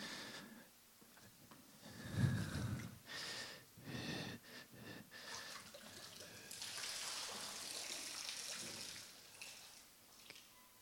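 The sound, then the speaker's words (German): Water splashes and sloshes in a church baptismal font that has been filled with water, a few separate splashes first, then a steadier stretch of running, swirling water before it quiets. No one speaks. “Und hier vorne in unserem Taufbecken ist heute auch Wasser. Wir haben es eingelassen.”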